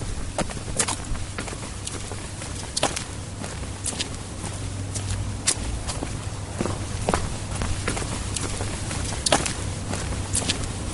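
Quick footsteps hurry down a flight of stairs toward the tram, a fast, uneven patter of sharp steps over a steady low hum, with no one talking.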